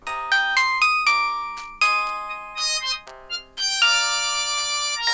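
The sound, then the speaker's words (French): An alarm clock rings at 6:45 in the morning with a bright electronic melody, a quick run of chiming, bell-like notes repeating in bursts, loud and alone with no voices. “6h45, le réveil sonne, faut se lever, faut aller en cours.”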